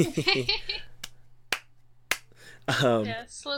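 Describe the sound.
A slow clap of three sharp, evenly spaced claps about half a second apart, sounding between bursts of people talking, with a low steady hum underneath.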